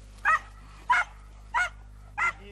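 A hunting dog, part of a bear hunt in the forests of the Börzsöny near Kemence, Hungary, barks four times in short, evenly spaced bursts, each sharp and fairly loud, over a steady low background hum with no one talking.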